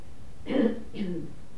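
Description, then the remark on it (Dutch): A small, quiet cough from a listener in the audience, two brief throaty bursts a moment apart. “Ja, dan hoor ik een kuchje en ik kan het aan het klimaat toeschrijven of aan mijn betoog.”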